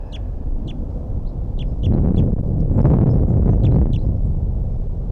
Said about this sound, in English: I think there's even a third bird here now, because I hear a song coming from somewhere. And anyway, this is the male that's close by.